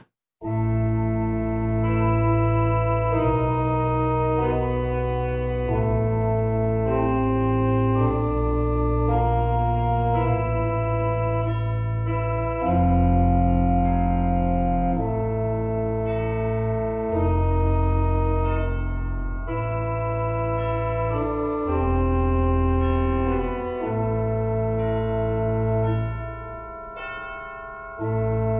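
An instrumental theme song from a haunted house ride, played with loud, sustained organ-like chords and deep bass notes that change in steady steps, with no voices throughout.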